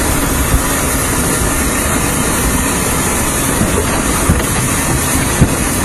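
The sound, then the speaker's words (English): A Great Western 56 steam locomotive trundles steadily across a gated, guarded level crossing, a loud, continuous rumble broken by a few sharp clanks and knocks from the wheels. No one speaks. “So we'll trundle across.”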